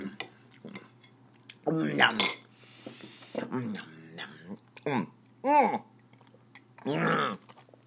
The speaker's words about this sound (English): I feel like I'm on Sesame Street the way I'm eating this food. It's not even getting down my throat. It's pouring all over my three-piece suit.